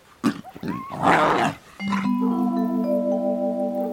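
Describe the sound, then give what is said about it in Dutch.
A hungry lioness roars in loud, rasping bursts over about a second and a half, followed by a steady sustained tone that holds to the end. “Timon probeert hem te beschermen tegen een hongerige leeuwin”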